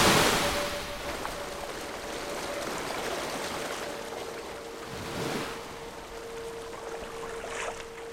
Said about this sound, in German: Aber so klingen keine Autos. Das klingt nach einer Brandung. Hier? Nach dem Meer? Jetzt höre ich auch den Wellengang.